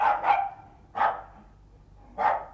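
A small dog gives four sharp, high yaps: a quick pair, then two more spaced about a second apart. The barks are clear, with no voices.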